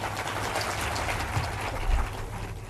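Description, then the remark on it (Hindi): A crowd applauds steadily, the dense crackle of many hands clapping together at an even loudness throughout, with no voices over it. “अब जयराम जी बोलना पड़ेगा, अब ताली बजा सकते हो।”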